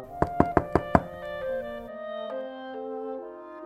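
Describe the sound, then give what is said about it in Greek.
Five quick, evenly spaced knocks on a bear's door at night, sharp and loud, as a duck tries to get him to open, followed by a soft sustained musical tone that shifts pitch a few times. No one speaks. “Έλα, φίλε, άνοιξε!”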